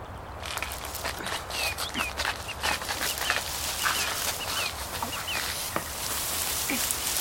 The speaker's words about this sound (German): Es ist hier nicht gefährlich. Aha. Nicht, solange du die Vögel noch hörst.